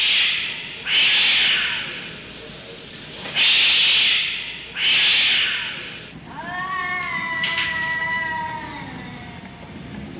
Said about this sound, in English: And every night at 3 a.m., there are cats.